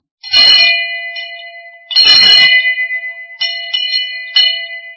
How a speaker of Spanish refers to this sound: Pero no, vosotros sois campanas, como por ejemplo esta.